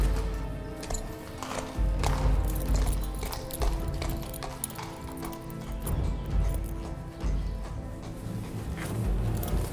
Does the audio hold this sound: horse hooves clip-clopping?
yes